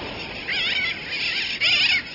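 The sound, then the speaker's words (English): Sooty terns call in three quick bursts of high, nasal, wavering cries that overlap and rise and fall in pitch, steady and fairly loud, with no voices present. “During and after a hurricane, sooty terns, like the ones we're hearing, and other seabirds from the Caribbean turn up widely in our country's interior, blown hundreds of miles from the sea.”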